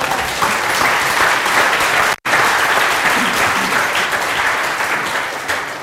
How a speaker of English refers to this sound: Okay, you did win on speed, so you can have it. Well done. All right, you also went first. So, round of applause for the